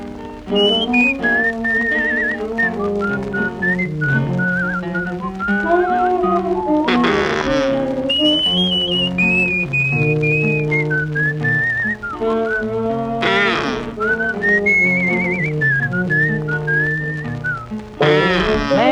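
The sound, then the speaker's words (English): A bird call whistled by a person, weaving a high, warbling melody with fluttering trills over steady orchestral accompaniment, loud and continuous throughout. “That sounds like a plain old bird to me.”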